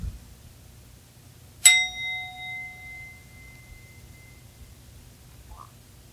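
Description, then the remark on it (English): A single bell is struck once, a bright metallic strike that rings on with a long, slowly fading resonant tone over a quiet low rumble. No one speaks. “where is the one who hears the bell?”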